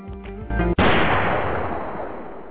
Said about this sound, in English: Sorry, people. I know the gunshots are a little graphic.